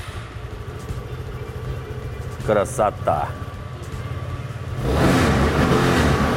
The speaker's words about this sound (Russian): Включаем зажигание, зажимаем тормоз, жмем на стартер.